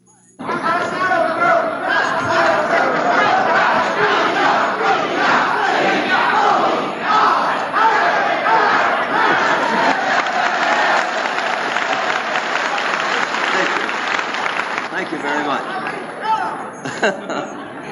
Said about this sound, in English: As we enter the ballroom, we hear a cheer to Mr. Truman.